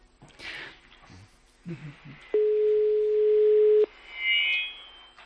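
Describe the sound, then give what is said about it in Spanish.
A single steady ringback tone of a call to a mobile phone sounds for about a second and a half, loud and even in pitch, after some brief muffled voices and shuffling, followed by a faint higher electronic chirp. “Bueno, a ver si lo cogen. Es un móvil, pero...”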